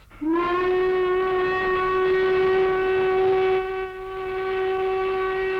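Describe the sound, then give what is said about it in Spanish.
A loud locomotive whistle blows one long, steady, piercing note for about five seconds, briefly dipping near the end before carrying on, with no voices around it. “¡Mi té mágico te hará chiflar como locomotora! ¡Ahora chifla!”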